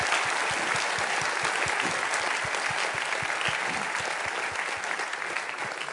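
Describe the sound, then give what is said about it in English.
Sustained applause from a sizable audience for two debaters before a debate, a steady dense wash of clapping at even loudness for several seconds with no voices breaking through. “And so let's give them a warm applause for their thorough preparation and for being here.”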